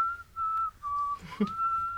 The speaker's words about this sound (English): Don't whistle, Masha.